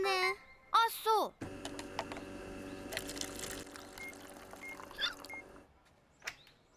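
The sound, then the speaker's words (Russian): Water pours steadily into a glass for about four seconds, a continuous splashing trickle, for someone with hiccups to drink, preceded by a couple of short vocal sounds and ending with a faint clink. “Может, она пройдет, если ты выпьешь немного воды?”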